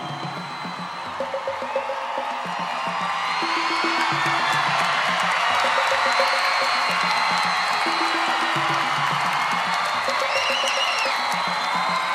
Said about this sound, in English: The applause on … is actually the end of …